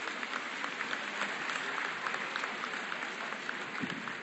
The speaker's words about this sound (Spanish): Un aplauso para recibirla, compañeros.